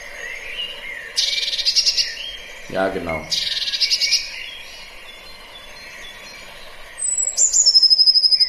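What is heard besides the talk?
bird calls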